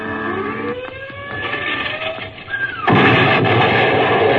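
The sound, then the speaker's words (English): A V-1 flying bomb explosion: a droning, whining engine tone shifting in pitch, then a sudden loud blast about three seconds in that roars on as a heavy, sustained rumble. “It was a robot.”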